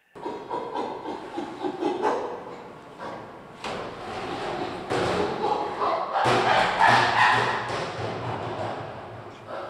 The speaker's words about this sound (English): Back at the sanctuary, a 35-year-old male named Burrito is banging on an empty steel drum. So that's Burrito displaying a little bit, pushing that barrel around.